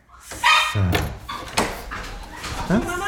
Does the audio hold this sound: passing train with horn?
no